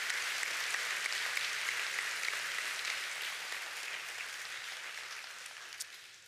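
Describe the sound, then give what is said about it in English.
A church audience claps steadily for students heading off to college, a dense wash of many hands, holding strong before gradually thinning and softening toward the end. “Can we give them another round of applause?”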